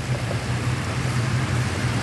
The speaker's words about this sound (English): In Illinois, right at the bridge, if you look off to the right, you can see and you can certainly hear these huge orange and black pumps. There's 36 of them. And they're pumping 72 to 75 million gallons of water back into the Mississippi every day.